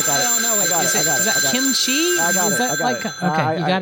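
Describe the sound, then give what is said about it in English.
A telephone lying under a Filipino menu rings in a steady, high electronic tone that holds throughout, while voices talk loudly over it. “The phone's under the Filipino menu.”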